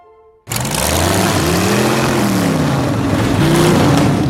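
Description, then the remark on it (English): An unmuffled race car engine, gunned by a trainer and sounding like Storm, roars to life after a brief quiet moment, revving loud and raw with rising and falling harmonic pitch, a harsh, sustained growl with no talking. “With no muffler, you even sound like Storm.”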